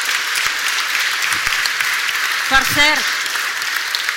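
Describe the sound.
Sustained applause from an audience at a Corpus festival presentation event, a dense steady crackle of many hands clapping, with a brief voice or cheer rising through it midway.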